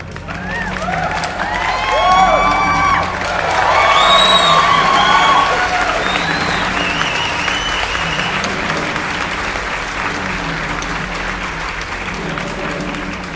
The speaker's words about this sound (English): A round of applause for our guest.